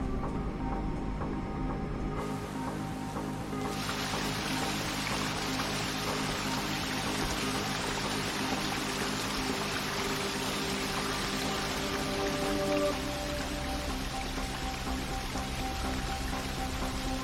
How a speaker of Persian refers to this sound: پاراگوئه، آبشار سالتوس دل موندای.